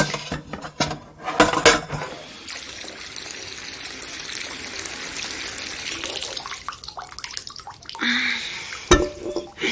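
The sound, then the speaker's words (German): A few quick clinks of opened glass jars set into a pot, then a steady rush of tap water filling the pot for several seconds, ending with more knocks and clatter; the jars are to be boiled in the water so the quince jelly keeps longer. “Dafür stellen wir die geöffneten Gläser in den Topf, füllen ihn mit Wasser und bringen dann das Wasser zum Kochen.”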